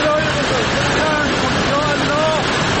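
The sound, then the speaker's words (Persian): A loud, steady roar of rushing floodwater in Firuzkuh, Tehran province, Iran, where floods and landslides have closed roads, fills the whole stretch without a break, with a voice faintly audible talking underneath the torrent. “اینجا فیروزکوه، جایی که بسته شدن راه ها به خاطر سیل و رانش کوه امداد رسانی را با تأخیر و مشکل روبرو کرده.”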